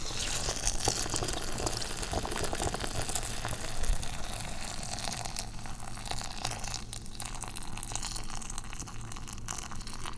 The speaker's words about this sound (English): That wasn't so great, because I did manage to spill about, 30 milliliters of water all over the counter. Nobody cares, because it is just water.